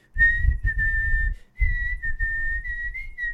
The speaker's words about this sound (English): You're going through those, like, brutal-looking boroughs in the opening shots of that movie, and all you hear is, like, this building Irish jig and that, like, penny whistle.